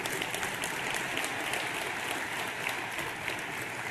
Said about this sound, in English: It's a little applause is okay.